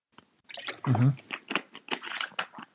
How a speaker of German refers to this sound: Was war das? Okay, gut. Soundeffekt? Nee. Schluck Wasser. Achso, Schluck.